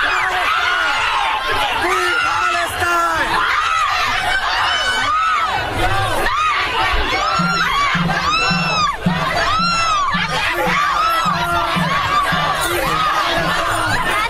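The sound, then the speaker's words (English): A large crowd of protesters at Columbia University screams and shouts nonstop as NYPD officers make arrests and tear down tents. Many overlapping voices rise and fall, with a rhythmic chant-like pulse emerging in the second half amid the constant uproar; they scream "Free Palestine." “You get the idea. Pandemonium. They're screaming "Free Palestine,"”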